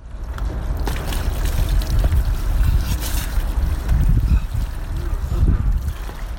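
Icy water gushes and splashes steadily from a hose as people do their morning wash at one degree above zero at an abandoned warehouse in central Belgrade, a continuous rushing wash with a few louder bursts and some wind-like rumble, and no one speaking.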